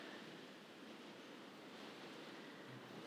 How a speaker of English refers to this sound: You can hear the rain. Probably is worse than it actually is. It always sounds better on a conservatory roof.